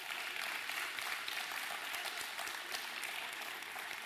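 A crowd applauds steadily for about four seconds as the kids are dismissed, a dense, even wash of many hands clapping with no voices standing out and no break in the sound.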